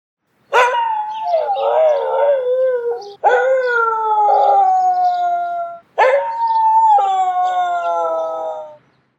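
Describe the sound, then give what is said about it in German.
A dog howls three times in long, wavering, sustained cries, each starting with a sharp rise and sliding slowly downward, loud with brief pauses between them. “Jetzt kommt der Hund dran, der heult.”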